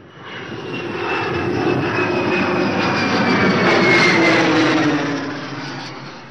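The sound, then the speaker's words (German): An airplane drones steadily overhead, a broad roaring engine rumble that swells in over the first second, holds loud and even, then fades toward the end. No voices are present. “In den Sommerferien flog er mit seinem Vater nach Amerika.”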